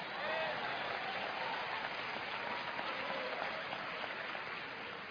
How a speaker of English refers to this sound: Praise God. Clap, I dare you.